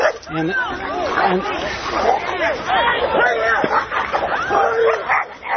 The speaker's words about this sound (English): There's a dog fight going on here. And my person I was interviewing entered to try to help clear the two animals apart. And they're waving at each other. And that was quickly resolved.